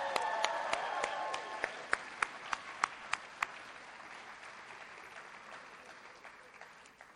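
A crowd applauds in a steady, dense patter, with a handful of sharper individual claps standing out early on before the clapping gradually thins and fades toward the end.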